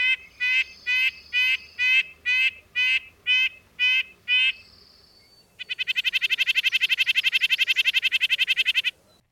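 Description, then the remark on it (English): About ten short, nasal, high-pitched yank-yank calls of a red-breasted nuthatch repeat in a steady rhythm, followed by a fast, buzzy run of rapid notes. Clear, with no voices. “Here is the red-breasted nuthatch's higher-pitched call.”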